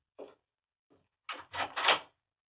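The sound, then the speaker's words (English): A door is opened: a short click, a faint knock, then three loud, rough bursts of scraping and rattling in quick succession. No one speaks. “Then he went to the door.”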